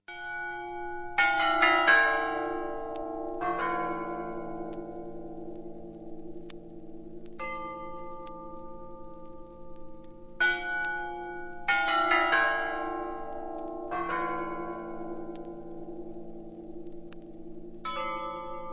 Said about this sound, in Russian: Противовес им, например, послушаем, как звучат куранты Суздальского Кремля.